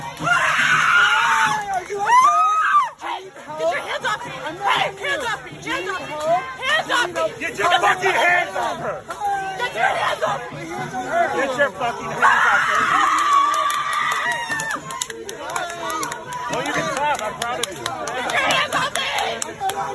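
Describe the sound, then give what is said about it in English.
A loud, shrill screaming cuts through a noisy crowd, rising and falling in piercing bursts over continuous babble and chatter. “Screeching just watch it. Banshee.”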